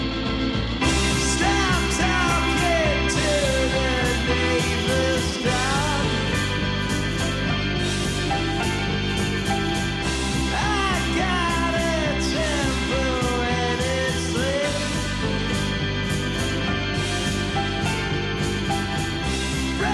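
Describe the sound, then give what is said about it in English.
A loud, driving rock song plays throughout, with a rough male voice shouting and wailing over dense guitars, bass and steady drums, the energy staying high and constant. “shouts a lot of the time.”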